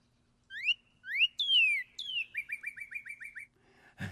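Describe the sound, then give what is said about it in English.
A northern cardinal sings clear, loud whistles: a few rising slurred notes, then long descending sweeps, followed by a quick run of about eight repeated chirping notes. “It's that nice, clear whistle.”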